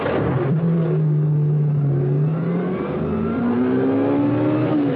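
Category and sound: vehicle, sports car engine revving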